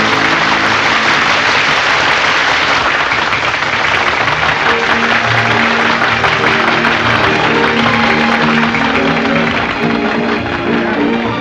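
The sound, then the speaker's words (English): A large audience applauds a singer on a balcony steadily for about eleven seconds, a dense, loud wash of many hands clapping with no pause and no voices standing out. “Lily rushes from her position on the balcony without acknowledging the applause of her appreciative audience.”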